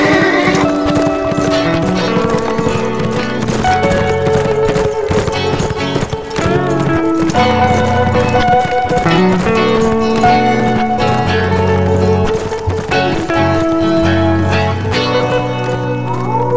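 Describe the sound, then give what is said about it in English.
Horse hooves clip-clop in a steady galloping rhythm as a rider urges the horse off with a shout of "Hyah!", mixed beneath loud, continuous music that stays full and even throughout. “Well, good horse, you want to go see some country we ain't seen before? Let's go then. Hyah!”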